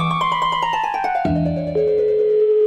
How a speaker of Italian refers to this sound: Il telefonino di Telese, Parenzo.